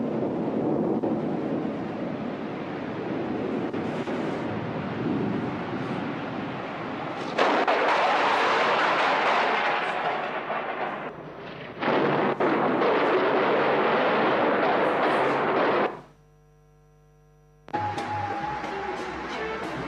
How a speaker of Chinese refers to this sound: 之後都有另外一條片，就是網上聲稱是最驚嚇，驚訝的雷電的。如果覺得大聲就自己掩住耳朵啦。